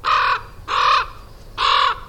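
Three loud, harsh crow caws ring out one after another in a steady, evenly spaced rhythm, each a short raspy call with brief gaps between, with no talking. Several crows are picking through things strewn across a sidewalk from something tipped over.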